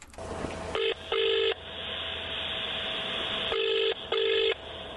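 Telephone dialing tones: four short electronic beeps in two pairs, sounding over a steady line tone with a faint background hiss. Nobody speaks.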